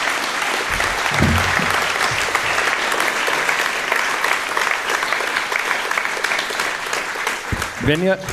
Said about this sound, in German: Ich würde sagen, mal einen ganz, ganz großen Applaus. Vielen, vielen herzlichen Dank.